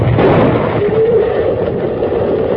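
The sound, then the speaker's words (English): The bridge across the Possum River being blown up comes through as a loud, sustained rumbling roar, deep and crackling, holding steady for a few seconds with no voices over it. “The Lone Ranger and Tonto missed death by a narrow margin when the bridge across the Possum River was blown up.”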